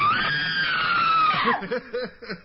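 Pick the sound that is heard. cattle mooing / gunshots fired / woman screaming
woman screaming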